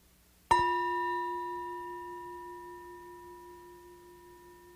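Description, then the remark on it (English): A meditation bell is struck once in a monastery, giving a clear, resonant tone with shimmering overtones that hangs in the air and fades slowly over several seconds, with no voices. “So I don't have music, I don't sing, but I'll ring the bell in a couple minutes.”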